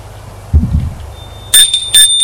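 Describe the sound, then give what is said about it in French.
A dull low thump, then a doorbell at a house rings loud in three quick, bright, buzzing bursts that carry on to the end, with no one speaking. “On a sonné, des pas, la porte.”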